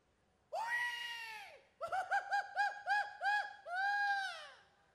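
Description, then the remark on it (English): A single voice demonstrates a Mexican grito for an audience: a long, loud, high wail, then a rapid string of about seven warbling yips, ending in one more drawn-out cry, with no other sounds. “… is going to demonstrate a grito”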